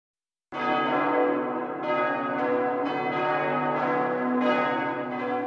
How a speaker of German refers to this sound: Die Glocke klang anders als sonst